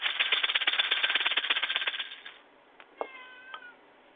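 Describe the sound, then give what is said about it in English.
A cat gives two short meows after a loud, rough pulsing buzz fades out over the first two seconds. No one speaks. “So says the kitty.”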